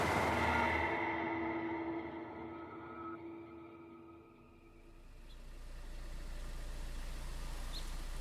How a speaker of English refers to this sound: On October 10th, 1978, a few weeks after Phil Ritter was attacked in his driveway, a car idled outside of a house in the Pacific Palisades neighborhood of Los Angeles.